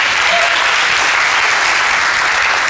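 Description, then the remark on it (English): A crowd claps steadily and loudly for the worship team, a dense, continuous wash of many hands applauding together with no pauses and no voices rising above it. “Can we give our worship team a big round of applause just for their leadership?”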